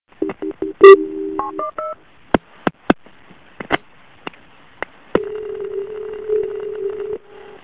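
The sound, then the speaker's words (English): Quick telephone dialing tones beep in a short series as an emergency call is transferred to medic for an ambulance, followed by sharp clicks and then a steady, low-pitched line tone that hums for about two seconds before cutting off. “Let me transfer you to medic.”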